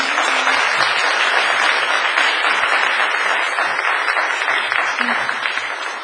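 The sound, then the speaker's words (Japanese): A crowd applauds steadily for about six seconds, many hands clapping at once into a dense, even wash of sound that stays loud throughout and eases only slightly at the end. The applause welcomes two visitors from Food for the Hungry International (国際飢餓対策機構). “拍手で”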